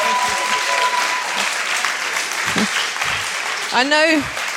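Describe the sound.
Sustained applause from a sizable audience, a dense steady wash of clapping with a single voice whooping out near the end.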